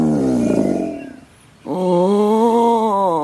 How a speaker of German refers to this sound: Normalerweise war der Vielfraß mindestens 4 Gänge zum Abendessen gewohnt. Ein lautes Knurren entwich seinem Magen.